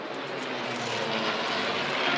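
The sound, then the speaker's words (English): A P-40 fighter plane's propeller engine drones in a steady, broad roar with a low throbbing hum underneath, growing slightly louder over the couple of seconds, as it approaches from the south over Monroe Street, a couple of blocks west of downtown Commerce, Texas. No one speaks. “We are on Monroe Street, just a couple of blocks west of downtown, and we have Some folks in the crowd saying that they can see the P-40 making its approach from the south.”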